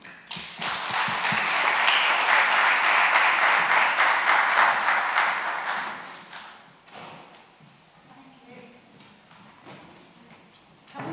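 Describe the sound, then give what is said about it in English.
An audience breaks into loud, dense applause for a panel of speakers that holds steady for several seconds, then tapers off into scattered claps and quiet room noise. “Round of applause to our panelists.”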